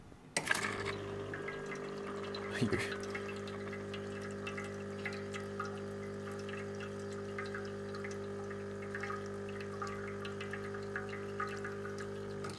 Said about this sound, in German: lustig, dass das Plätschern teilweise lauter ist als die Pumpe.